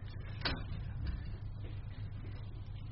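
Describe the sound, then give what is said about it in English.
A door is pushed open a little with a short scraping rush, followed by a softer knock a moment later, over a steady low rumble. “Yeah, open up that door a little bit, because it can get too hot anyway.”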